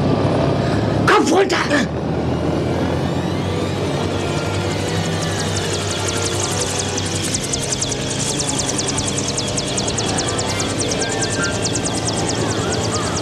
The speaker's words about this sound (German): Der Hubschrauber geht wieder ab.